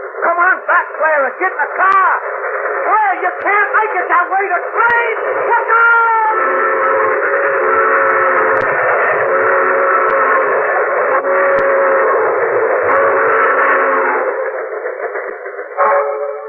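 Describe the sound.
A train's whistle blows in long, sustained wails over a steady mechanical rumble, loud, as a train comes along railroad tracks, with excited voices calling out at the start before the whistle takes over.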